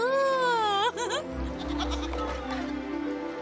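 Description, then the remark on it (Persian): A sheep bleats loudly, a wavering, quavering call lasting about a second, followed by a muffled low rumble and faint background noise. “ببخشید. گرسنمه. گوسفند.”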